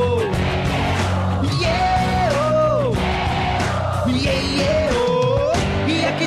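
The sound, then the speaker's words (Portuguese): A concert crowd cheers and yells steadily throughout, loud and continuous, mixed with music and a sung vocal line that rises and falls over it. “Quero ouvir a multidão.”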